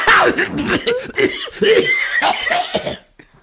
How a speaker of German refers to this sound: Du rauchst doch nicht, was soll das, diese Husterei? Nee, ich mache jetzt hier den Nord, ich finde es so lustig, dass ich husten muss.